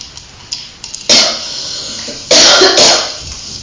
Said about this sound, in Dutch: Dat ik zo hoest?